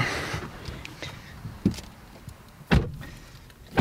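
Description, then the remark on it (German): A driving student and her driving instructor climb into a car for a simulated practical driving test: rustling and shifting, a few soft knocks, then a solid thud like a door shutting, followed by another bump near the end. Fairly quiet, no talking. “die steigen nämlich jetzt ins Auto, ist natürlich nicht offiziell, aber wir simulieren das Ganze”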